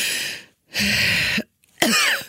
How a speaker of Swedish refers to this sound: Som, där det kliar och jag inte kan andas. Och då låter det så här. Då måste jag hämta luft så här.